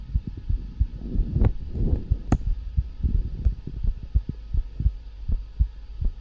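A rapid heartbeat thumps steadily, low and muffled like it's heard through a stethoscope, with a faint hum underneath and a few brief clicks; no one speaks.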